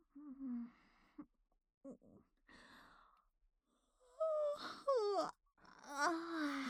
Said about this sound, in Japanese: 先輩、ミーティング中です。あくびはもう少しバレないようにしてください。 ごめんね、今のははっきり私が悪いや。